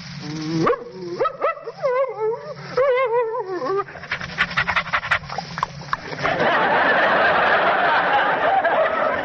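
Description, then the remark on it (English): A man's voice, a performer who plays dogs in scripts, imitates a friendly dog, with whimpering yips and eager whines, then a burst of rapid panting and snuffling that ends in a rough, breathy noise. “in a script, I may be called upon to be a friendly dog like this.”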